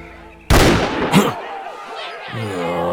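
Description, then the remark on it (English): A sudden loud gunshot cracks out and rings with a long echoing tail, followed by a second, softer report a moment later, with a low tonal hum underneath. “The sound of gunfire roused Luke from sleep.”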